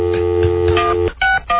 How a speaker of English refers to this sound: I have a rotary dial at home. I don't understand. Touch tone, Larry. Push button.